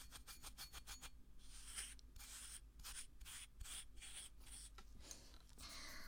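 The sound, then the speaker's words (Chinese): Hands rub and grind through sand in gritty, scratchy strokes, quick and rhythmic at first, then longer sweeping swishes repeating steadily over a faint low hum, with no voices. “手磨沙子的感觉好神奇啊。”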